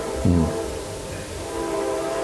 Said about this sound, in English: the train is always blows through here right in the middle of the sermon